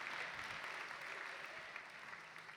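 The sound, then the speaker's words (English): A crowd applauds the gospel choir steadily, a dense wash of many hands clapping at a fairly even loudness that tapers slightly toward the end, with no voices standing out. “Hey, well, let's give a round of applause for the gospel choir.”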